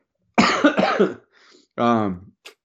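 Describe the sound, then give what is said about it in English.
Two hard, chesty coughs from a person with a cold, in quick succession, loud, followed after a short pause by a brief voiced, groaning sound and a small click. “I have the hard cough where I can feel the stuff in my lungs trying to come up”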